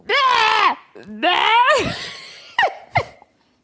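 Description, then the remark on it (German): A person imitates croaking frogs with two drawn-out, nasal, wavering cries, then a couple of short, sharp croaks, loud and with no other talking. “Die sind so laut, die schreien die ganze Nacht lang. Wie machen die?”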